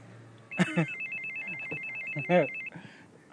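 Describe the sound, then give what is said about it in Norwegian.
Doorbells in a pink apartment block ring with a steady, shrill electronic tone lasting about two seconds, punctuated by a few louder chime-like bursts, against a faint background hum. “Det er ikke mange ringeklokker i denne rosa blokka som ikke ringer akkurat nå, tror jeg.”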